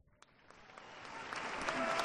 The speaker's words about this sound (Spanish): De nuevo aplausos para esos caballeros legionarios que no se mueven de sus posiciones.